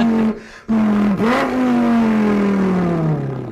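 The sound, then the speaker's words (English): A person's voice imitates the engine of a car with a 5.2-liter V10 revving: a loud buzzing drone that breaks off briefly, dips and swoops back up, then holds steady and slowly winds down in pitch. “That is him doing. That's all him. I cut out the real sounds just to make it shorter.”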